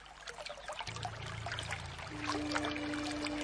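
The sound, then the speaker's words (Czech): A stream trickles and burbles steadily throughout, fairly loud, with a low sustained hum or drone running underneath. “Jen musím jít co nejblíž k potoku.”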